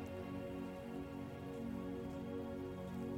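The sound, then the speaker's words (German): A large campfire crackles and hisses steadily, its soft popping texture continuing without pause over a low, even hum, fairly quiet throughout with no talking. “Du hörst die Geräusche des Feuers. Es knackt und zischt.”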